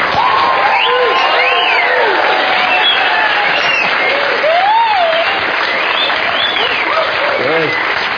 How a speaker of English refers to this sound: So please, whatever you do, don't spoil it, don't say anything. Just put your hands together and give a nice big round of applause